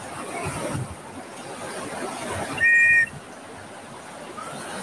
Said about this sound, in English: Multiple whistles coming.